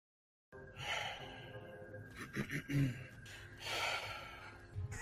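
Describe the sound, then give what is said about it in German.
Breathy vocal noises: a mix of throat clearing and low, drawn-out groaning, with heavy exhales and a short guttural grunt in the middle, no words spoken. “Diese Melange, diese Mischung aus Räuspern und Stöhnen.”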